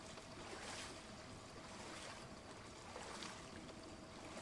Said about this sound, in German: Im Kino herrscht Ruhe. Nur das langsame Plätschern des Wassers ist zu hören.